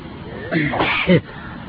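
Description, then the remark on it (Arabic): A single sneeze during an Arabic Islamic religious lesson: a brief voiced intake building into a sharp, loud burst that cuts off quickly. “الحمد لله، يرحمكم الله، يهديكم الله، يصلح بالكم”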